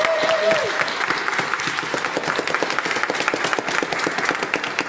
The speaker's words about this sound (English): And first of all, I want to start by thanking all of the people who brought their different languages and abilities to us this morning. That was so, yes, I think everyone deserves a round of applause.